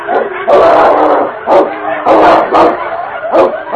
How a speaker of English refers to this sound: As the great dog charged, the leader turned to meet the challenge. The sound of the wind was split by snarls and growls of fury. Cruel fangs were exposed as snapping jaws tried to grip a vital spot beneath King's heavy fur.